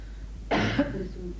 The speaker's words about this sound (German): Du hast starke Hustenprobleme? Willst du Wasser trinken? Nein, danke. Es ist eine Bronchitis. Ach ja. Aber hier ist sehr viel Staub.